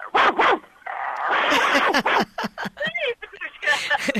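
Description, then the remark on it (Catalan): A puppeteer's voice mimics the puppet dog Laika barking, a quick series of short, loud yips and woofs, with some talking mixed in between the barks. “A veure com borda la Laika. I la Laika borda així.”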